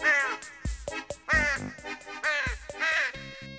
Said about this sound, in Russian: Раскаркалася неяк у восень одна ворона на сметнику.